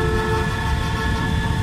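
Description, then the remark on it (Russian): Loud, sustained honking of horns, as of an airplane stuck in a traffic jam, a steady blaring chord that holds without a break, with a rumbling low background and no voices. “Самолет стоит в пробке.”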